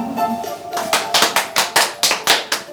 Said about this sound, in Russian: Ребят, все по краям встаем, за руки держимся и все вместе кланяемся. Нам хлопают.